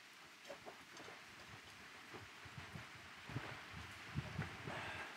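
Soft, steady rain falls outdoors in Costa Rica, a continuous hiss of drops with scattered faint patters and taps, fairly quiet and with no one speaking.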